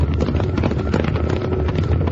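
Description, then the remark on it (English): A dense, continuous rumble of pounding hooves, a cattle stampede with galloping horses, loud, with rapid overlapping thuds and no pauses throughout. “It's a stampede. It's Tuttle's cattle, and they're headed right for us.”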